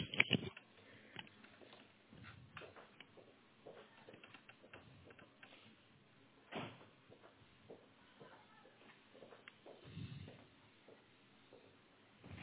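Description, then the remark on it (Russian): A door being closed: a few muffled thumps and clunks spread over several seconds, with quiet shuffling and faint rattling handling noises in between, and no talking. “Все, подожди, дверь скрою.”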